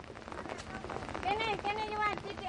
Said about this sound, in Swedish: Regnet lättar något, så vi går ut på de små fälten igen.